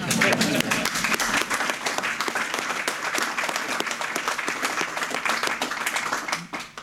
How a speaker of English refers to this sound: And please, will you cheer for